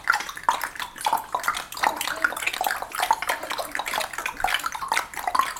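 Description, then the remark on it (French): Quick, crisp tongue clicks in a steady, rapid rhythm, imitating a horse galloping faster as a voice warm-up exercise to wake up the tongue, continuing without pause and with no talking. “On imagine que le cheval va plus vite.”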